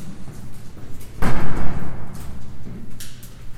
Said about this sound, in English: And we're going to head out this side door into a stairwell.